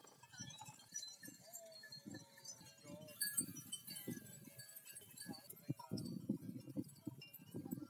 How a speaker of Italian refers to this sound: Fra un bagno e l'altro è passato un pastore che seguiva un gruppetto fra capre e pecore.